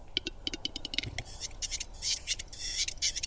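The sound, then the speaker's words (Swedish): A western capercaillie calls alone: a run of dry, accelerating clicks and a soft pop, then a high, raspy scraping like a blade being whetted, fairly faint throughout. “Så här låter en tjäder.”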